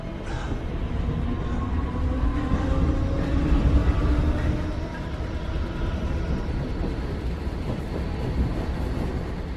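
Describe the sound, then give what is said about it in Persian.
A metro train in a subway station rumbles steadily, its electric motors whining in rising tones over a heavy low roar, the noise swelling slightly midway and then holding level. “اوسایریس رو گم کردی، داره به طرف مترو میره، تعقیبش میکنی.”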